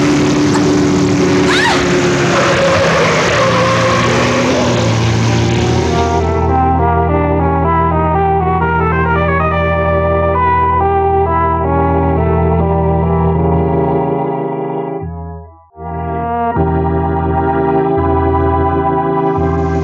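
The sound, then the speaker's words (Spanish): A small sports car's engine roars loudly, its pitch rising and falling as it revs hard while the car zigzags dangerously along a road, with a harsh burst of noise at the start and a brief cut-out near the end. “El pequeño auto zigzaguea peligroso sobre la carretera.”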